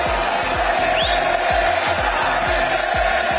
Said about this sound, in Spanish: Bueno, pues hablando de poder, ojito que ayer en Los Cármenes se gritaba esto en la grada.